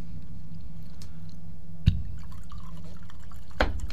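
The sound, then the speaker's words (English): Wine is poured into a glass, a soft steady liquid trickle with two sharper splashing drips standing out, and no one speaking. “You love those sounds. Wine pouring, a knife going through cheese.”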